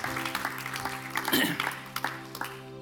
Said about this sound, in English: Can we just honour them? Let's give them all of a clap. They just guys are awesome. All the leaders, all of the staff.